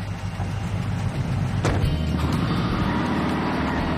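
A car door shuts once with a solid thud partway through, as a woman gets into the car, set against a steady low rumble of engine or road noise. No one speaks.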